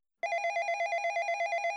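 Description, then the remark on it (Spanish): A telephone bell rings continuously with a rapid, even trill, loud, starting abruptly and sounding alone without any voices. “En ese momento suena el teléfono y él se aprovecha para marcharse.”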